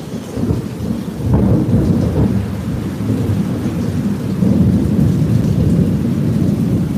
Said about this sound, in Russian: Видали? Молнии были. Сейчас еще гроза придет. Гром прогремит. Молнии были.